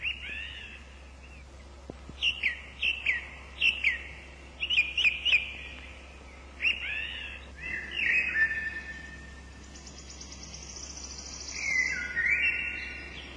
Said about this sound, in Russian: Несколько записей, которые мы хотим предложить вашему вниманию, увы, не могут компенсировать непосредственный контакт с природой, но, может быть, разбудят в вас желание услышать, о чем говорят дрозды весенней порой.